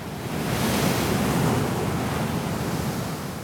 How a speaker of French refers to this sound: Ce fut pourtant un soupir d'aise quand, du haut de la dernière colline, on aperçut enfin la longue grève des trépassés, la mer scintillante frangée de vagues écumantes entre la pointe du Raz et la pointe du Vent aux monstrueuses falaises découpées